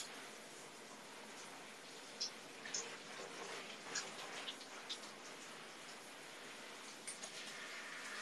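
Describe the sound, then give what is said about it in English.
Steady hiss of shower water running, with a handful of sharp droplet taps and splashes scattered over it; fairly quiet and constant, no voices. “Well, it's shower time, boys.”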